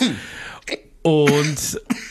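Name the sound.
coughing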